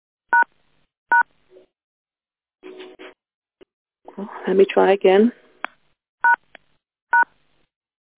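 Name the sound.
telephone keypad tones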